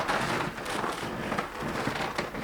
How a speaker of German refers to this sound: Hier ist es etwas dunkel und das Geräusch liebe ich an der Bibliothek, dieses Knarzen des Bodens, diese Geräusche, hier, da.